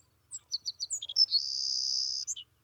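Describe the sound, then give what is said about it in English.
A grassland songbird sings a few short, high chips that run into a long, thin, insect-like buzzy trill, then ends with a couple of quick notes, clear and alone. “It lives in the grassland. It comes just as the grass is getting tall, builds its nest, stays here and fattens up really well on all our wonderful grass seed, and then heads south.”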